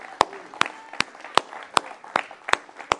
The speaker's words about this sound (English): If you believe it, give the Lord a hand clap.